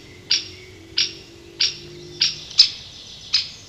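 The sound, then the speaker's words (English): A great spotted woodpecker gives six sharp, loud 'chick' calls at a steady rhythm, each short and clipped, spaced a little over half a second apart, with no voices. “A loud chick call tells you straight away that a great spotted woodpecker is about.”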